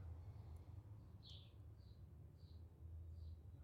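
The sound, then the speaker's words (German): Four short, high bird chirps arrive about every half second to second, fairly quiet, over a steady low rumble of background noise, heard on a walk in nature under a sunny sky. “Du hörst das Zwitschern der Vögel”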